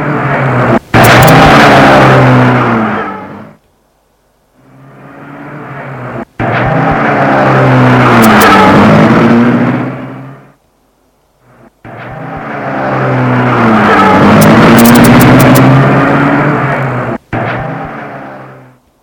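Cars driving away from a house: engines roar and rev in three loud, drawn-out bursts, pitch climbing as they accelerate, with brief pauses of quiet between them. No one speaks.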